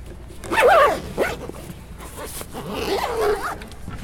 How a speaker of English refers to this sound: So at this point, we can put this cello back into the case. Zip it up.